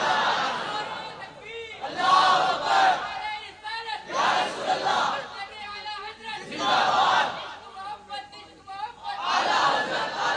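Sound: crowd chanting religious slogans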